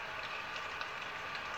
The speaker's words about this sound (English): Rain has slowed down.